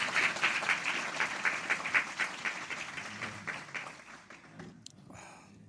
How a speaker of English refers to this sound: So let's, you know, show our applause to Chinese people, Chinese churches.